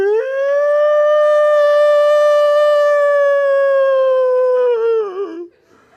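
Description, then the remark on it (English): A voice imitates a World War II air-raid siren, holding one loud, steady wailing pitch for about five seconds before it wavers and drops away at the end. No talking is heard. “And then so she just winds up that World War II alarm that Churchill used.”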